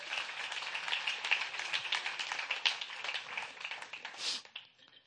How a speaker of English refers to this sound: Amen? Come and give yourself a good hand clap.